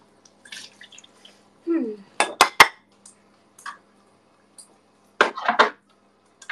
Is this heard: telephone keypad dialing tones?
no